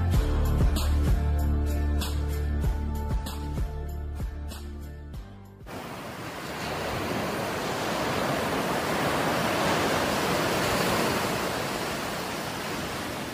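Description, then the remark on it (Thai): Music plays for the first few seconds, then cuts to a steady, full rush of ocean waves washing onto a white sand beach with clear sea water, continuous and fairly loud with no voices. “หาดทรายขาวน้ำทะเลใสเริ่มต้นได้ด้วยมือเรา”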